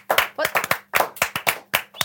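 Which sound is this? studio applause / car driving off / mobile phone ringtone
studio applause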